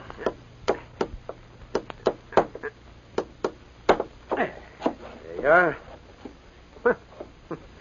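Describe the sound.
A hammer drives a tack to put up a handbill for the sheriff. It makes a run of sharp, uneven knocks, some quick and light, others heavier. A short voiced sound rises briefly partway through the tapping.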